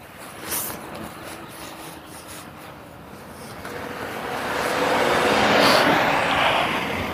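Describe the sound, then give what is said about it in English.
A car approaches along the road, its tyre and engine noise swelling steadily to a loud peak as it passes, then beginning to fade, with no voices present. “The road's a car coming.”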